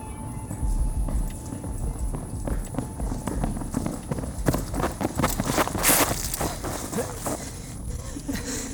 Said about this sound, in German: Und 3 Jungs rennen über Kiesboden.